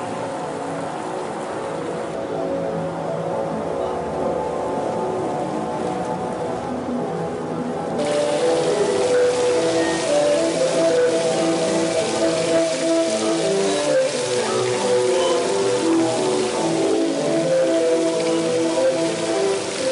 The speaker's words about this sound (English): notice it's making sound even when nobody's playing it a little bit. The water's whistling through all of the openings all the time, so the notes never begin or end.